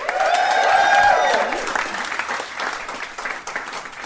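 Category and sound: crowd, audience applause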